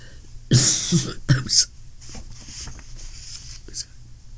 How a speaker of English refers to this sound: We're both suffering from the ramifications of a bad cough, so we're doing the best we can here.